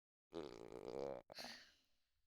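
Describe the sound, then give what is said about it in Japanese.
A loud stomach growl: a drawn-out, gurgling groan for about a second, a brief break, then a rougher rumble that trails off. No one speaks. “沈黙は金と言うけれど、お腹の虫は雄弁ね。”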